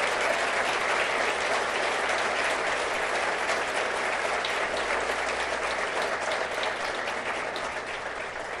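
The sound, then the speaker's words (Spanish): Sustained applause from a large audience for the minister of economy, a dense steady wash of clapping that holds at an even, loud level for several seconds without pause or voices over it. “Y la realidad es que frente a semejante titánica tarea, digamos, y quiero pedir un aplauso para nuestro ministro de Economía, el mejor ministro del mundo.”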